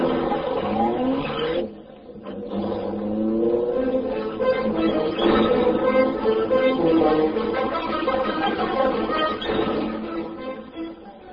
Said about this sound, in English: Britt Reed pressed a button. The great car roared into life. A section of the wall in front raised automatically, then closed as the gleaming Black Beauty sped into the darkness.